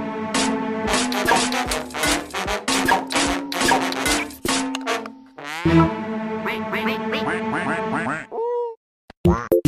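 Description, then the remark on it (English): A hungry cartoon duck quacks in a rapid, loud burst of nasal squawks, rising into a longer frantic stretch before trailing off into a few short clipped calls. “Such a good sport for such a hungry duck.”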